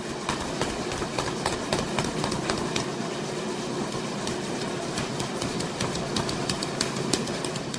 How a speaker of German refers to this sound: Lo que más hacemos pues es trabajarle a las personas que hacen el chocolate. Wir betreiben diese Mühle für die Menschen, die kommen, um Schokolade herzustellen. Das sind Leute aus den Dörfern der Umgebung von Quetzaltenango.